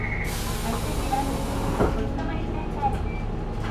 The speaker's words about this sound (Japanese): 扉を閉めいたします。